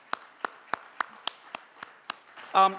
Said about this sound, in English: And if you join me in giving them a round of applause.